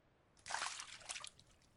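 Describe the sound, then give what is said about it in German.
A brief splash as hands dip into water, followed by a second of gentle sloshing and dribbling that quickly settles into quiet. “Langsam gleiten meine Hände von meinen Brüsten hinab, tauchen ins Wasser.”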